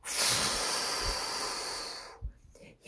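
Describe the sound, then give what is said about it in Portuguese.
A voice imitates a wolf releasing a powerful blowing gust, a steady, breathy whoosh lasting about two seconds before trailing off into a few soft breath puffs. “Então o lobo liberou seu forte sopro.”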